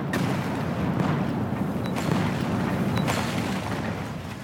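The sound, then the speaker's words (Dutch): A dense barrage of gunpowder cannon fire: deep booms rolling into one another in a continuous thundering rumble, with a few sharper blasts cutting through. It is loud and sustained, with no voices. “Kan ik een cacofonie van verschoten kruid krijgen, alsjeblieft?”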